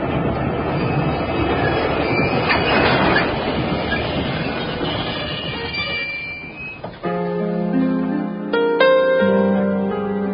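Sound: trains running on rails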